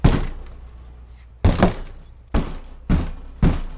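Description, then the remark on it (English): Heavy thuds strike a wooden front door about five or six times, one pair in quick succession and the rest spaced out, as a man outside pushes and kicks the door of a flooded ground-level house, stuck because flood water got beneath the floor and lifted it. “pushes and kicks the front door to try to get in.”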